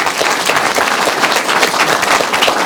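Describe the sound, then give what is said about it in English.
An audience applauds steadily, a dense, loud wash of many hands clapping with no gaps and no voices standing out, welcoming a Coast Guard officer as he approaches to speak. “Please join me in giving him a round of applause as I ask him to approach.”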